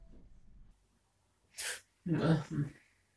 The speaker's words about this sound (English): It's unusual for me to gasp after I've been asleep for more than an hour, but here's one recorded at 12:38 a.m.